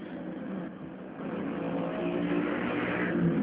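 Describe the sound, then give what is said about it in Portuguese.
Steady traffic roar from a street below, heard from up above, with car engines swelling as cars speed past, loudness building gradually toward the end. No voices. “Nossa, gente, aqui em cima, os carros lá embaixo passam voando.”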